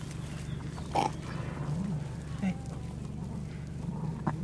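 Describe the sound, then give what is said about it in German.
A ewe lying down after giving birth to lambs breathes heavily with a few short, rough grunting breaths at irregular intervals, over a steady low rumble of background noise. “Ein feuchtes, schwarzes Lamm nach dem anderen legt der Schäfer der keuchenden Schafsmutter vor die Schnauze, damit sie es ablecken kann.”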